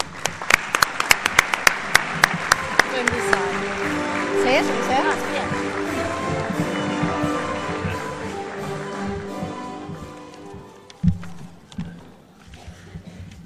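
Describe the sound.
A crowd at a town festival event bursts into loud applause welcoming the festival president: dense sharp claps at first, then a steady wash of clapping and cheering voices that slowly thins out, with a few isolated louder claps near the end.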